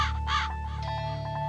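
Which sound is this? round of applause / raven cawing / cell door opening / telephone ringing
raven cawing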